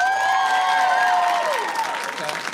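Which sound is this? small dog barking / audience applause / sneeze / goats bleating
audience applause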